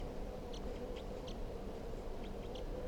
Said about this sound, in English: Stop. It's recording the birds here. The wild bird is coming down a little bit closer. He's now just above 362's cage.